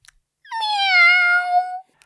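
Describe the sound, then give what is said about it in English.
A child's voice imitates a cat with one long, drawn-out meow, steady in pitch, then slightly falling, fairly loud, with no other talk. “What sound does the cat make?”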